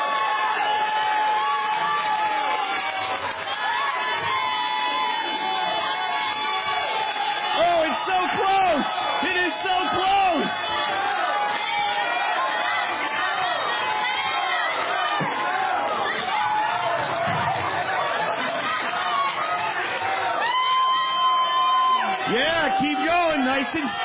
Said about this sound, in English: 20,000 points to the yellow team for this cheering.